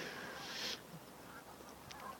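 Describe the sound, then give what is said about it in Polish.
A flock of geese calls to one another in the evening: a brief burst of harsh, honking cries, then scattered fainter calls, all quiet, with no voices. “Fajnie, jak taka grupa właśnie gdzieś ucieknie, a potem ktoś goni i się nawołują.”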